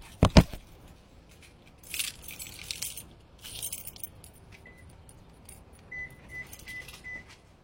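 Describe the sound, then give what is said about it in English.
Keys jingle and rattle in a few bright bursts while unlocking a car, with a sharp click at the start and faint metallic tinkling chimes later, no voices present. “Unlock the car so I can load that in.”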